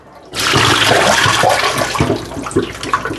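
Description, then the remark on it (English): Roast drippings, mostly moisture rather than all fat, pour out of a roaster in a sudden, steady gushing stream of liquid that starts abruptly and keeps splashing loudly for about three seconds, with no one talking. “Keep in mind, that's not all fat, that's all moisture, because the roaster is keeping the moisture from the food intact.”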